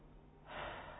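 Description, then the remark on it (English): An airy breath swells up after a moment of quiet and holds as a steady rush of air, a person drawing a slow, deep breath. No one speaks. “Close your eyes and breathe deeply.”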